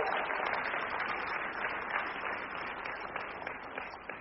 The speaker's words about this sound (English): They just built an auditorium. So, yes, we need to clap about that.